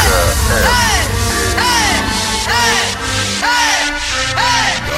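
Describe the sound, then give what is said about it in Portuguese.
A large crowd with hands raised shouts loudly and continuously, its dense roar steady throughout, with rising-and-falling cries bursting out roughly once per second above the din. “joga a mão em cima, joga a mão e grita.”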